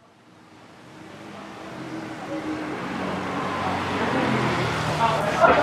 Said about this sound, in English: The scooters have not relented even a little. I'd say the traffic is like comfortably 30% scooters. That's just a thing around here.